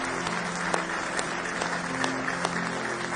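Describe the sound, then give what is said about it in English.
An audience claps their hands together in praise in sustained, dense applause, many hands blending into a steady wash with a few sharper claps standing out, without any talking. “Give him one more hand clap of praise this morning.”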